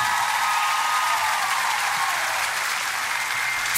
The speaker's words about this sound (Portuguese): Salve de palmas